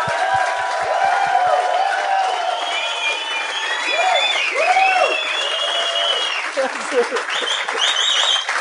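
A crowd bursts into sustained, loud applause with whoops and cheers rising over the dense clapping, continuing steadily for several seconds with a few low thumps at the start.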